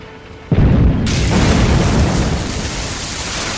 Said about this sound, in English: I can't believe it, ladies and gentlemen. The mega whale just exploded.